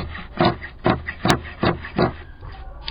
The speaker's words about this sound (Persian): مشغول قیچی زدن قالین دستباف زنان آقچه ای است.